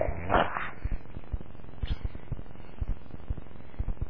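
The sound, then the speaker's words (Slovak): A low, rumbling animal growl that pulses steadily for several seconds after a brief breathy burst at the start, moderately loud, with no talking. “Vrčí.”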